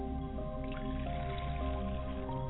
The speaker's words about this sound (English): I pour libations to the west and I say, Ashe. I pour libations to the south, and I say, Ashe. I pour libations to the north, and I say, Ashe, Ashe.